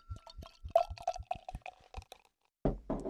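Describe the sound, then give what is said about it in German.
Beer glugs into a glass in a quick series of hollow, bubbly gurgles with a steady mid-pitched ring, pauses briefly, then ends in a louder rush of foamy, fizzing pour. “So, jetzt haben wir da was Schönes im Glas.”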